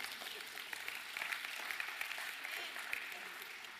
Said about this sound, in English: As Corey Ross would say, that deserves a clap or something. Come on, y'all.